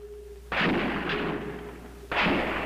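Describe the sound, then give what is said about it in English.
Two loud, sharp gunshots about a second and a half apart during the 90-minute gun battle with sniper Charles Whitman, firing from the observation deck of the University of Texas Tower, each followed by a long rumbling decay, over a faint steady tone and low background hum. “Sirens screamed for the 90 minutes that the gun battle was in progress.”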